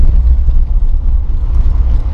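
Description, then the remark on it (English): Steady, loud low rumble of road noise from inside a moving car during a commute, a continuous droning hum with no voices or other distinct sounds. “being a passenger on these commutes, when you drive, today I'm driving”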